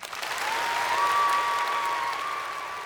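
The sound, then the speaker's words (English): An edited-in applause sound effect: a crowd bursts into steady, dense applause lasting about three seconds, with a thin, slightly rising whistle-like tone running through the clapping. No one speaks. “We can edit that in a clap, I think, can't we?”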